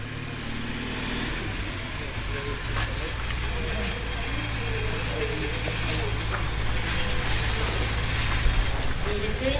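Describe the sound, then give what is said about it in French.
Steady car traffic rumbles throughout, a continuous low drone of passing vehicles, with faint murmuring voices and occasional small clicks on top. “On peut se mettre là, il y aura moins de bruit des voitures.”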